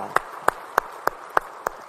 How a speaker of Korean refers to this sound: 우리 찬양 받으시니께 영광의 박수 올리겠습니다. 할렐루야.